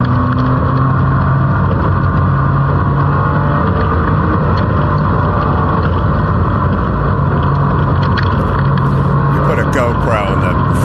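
A race car's engine roars steadily for the whole lap segment, filmed from a GoPro on the front of the car on a desert track where a lap takes about a minute: a loud, constant drone with heavy wind buffeting over it and small shifts in pitch as the car changes speed.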